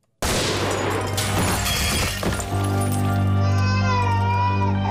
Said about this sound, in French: Donc là, l'unité antiterroriste arrive dans l'appartement, donc ils font sauter la porte et il tire et je crois qu'il blesse ou il tue un père, donc il porte un bébé, qui tient son bébé.